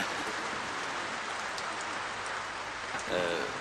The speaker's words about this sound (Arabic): يبدو أن هذا المطر لا يريد أن ينقطع. كلما استمر هذا المطر بالهطول فإنه يجلو غمنا نحن الطلاب البعيدين عن أوطاننا. نحن أبناء هذه المنطقة نقول أمطار الربيع هي قطرات الندى للشباب.